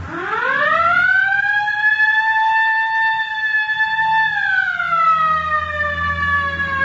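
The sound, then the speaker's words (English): A loud police car siren wails, switched on as officers pursue a bus, its tone rising quickly to a high sustained pitch and then slowly falling, with a low engine rumble underneath and no talking. “All right, hit the siren.”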